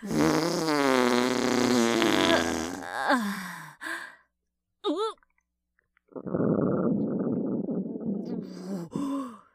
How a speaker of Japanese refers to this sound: ほーら、おならのおかわりだ。